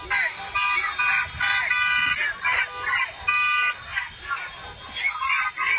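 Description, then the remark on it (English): A crowd chants "USA" in unison at a rally, loud rhythmic bursts of voices rising and falling in a steady repeated pattern, with brief gaps of crowd noise between the shouts. “Now we got the USA chant building.”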